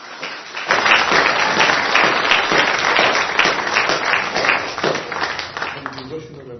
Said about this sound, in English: First of all, haven't our international readers done very well this evening? Can we have a round of applause?